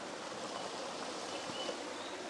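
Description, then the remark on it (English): A small stream of crystal-clear water flows steadily, a continuous soft rush and babble of water with no breaks, bright and hissy in tone, with no voices over it. “Yeah, that's a stream that leads down that way, and obviously there's some more water over there.”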